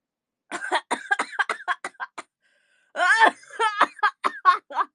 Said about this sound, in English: I'm, like, coughing all over the keyboard. That's not good. Oh, yeah. That was wet.